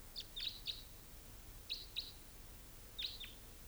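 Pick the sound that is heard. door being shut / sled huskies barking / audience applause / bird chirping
bird chirping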